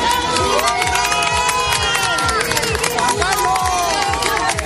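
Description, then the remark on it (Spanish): A large crowd cheers loudly and continuously, many voices blending into a steady roar, with a rhythmic chanted pulse running underneath as people call out together in unison, cheering King Juan Carlos at a wedding. “Entre los invitados destacaban varias personalidades del Partido Popular, como Alberto Ruiz Gallardón o Esperanza Aguirre, y de la Casa Real, principalmente el rey Juan Carlos, que también fue vitoreado por la multitud.”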